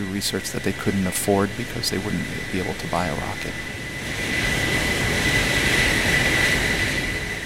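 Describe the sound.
A voice speaks briefly at first, then a steady, loud roar of the Stratolaunch aircraft's engines takes over, broad and rumbling with a sustained high whine, as the plane on its 28 wheels taxis along the runway of the Mojave Air and Space Port in the Mojave Desert in December.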